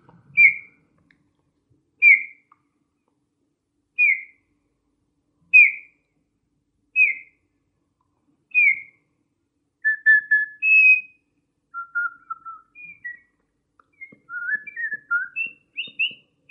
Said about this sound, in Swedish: Det är domherren. Den är det mycket av nu.